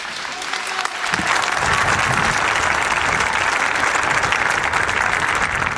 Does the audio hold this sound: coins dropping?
no